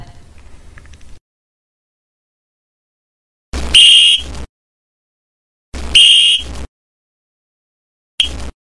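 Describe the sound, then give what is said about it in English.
Three loud, shrill whistle blasts, blown as a signal to hustle, sound in quick succession, the first two long and piercing, the last cut short, with silence between them and a faint rumble before. “Now when I blow this whistle, that means you get a hustle.”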